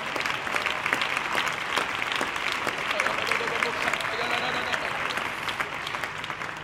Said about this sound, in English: Oh, somebody clap your hands and praise the Lord in the house.